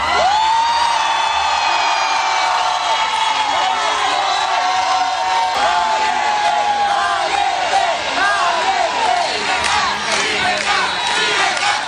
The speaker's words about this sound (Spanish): Con estos gritos de valiente y de libertad la recibían los suyos en Oslo.